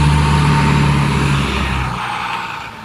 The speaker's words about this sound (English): Oh, a school bus. A school bus.